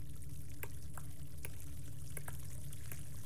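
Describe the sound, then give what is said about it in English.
Steady low rush of water flowing in a cave, with scattered sharp drips and splashes ringing out every half second or so over the continuous churn. “Or in locations that you can have water flowing.”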